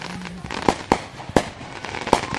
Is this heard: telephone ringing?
no